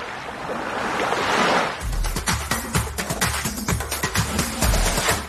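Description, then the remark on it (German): The sea rushes in a broad, steady wash, with a surge of surf at first, then rough gusty rumbling and scattered clicks and knocks layered over the water noise. “Wenn Sie diesen Podcast hören, hören Sie das Meer rauschen.”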